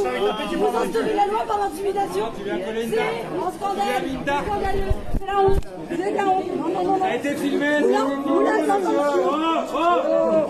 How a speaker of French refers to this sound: Alors vous les entendez, les cris de cette jeune femme, les huées de la foule qui disent que elle aurait été tapée.